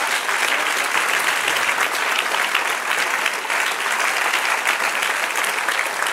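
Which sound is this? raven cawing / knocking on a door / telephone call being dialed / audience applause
audience applause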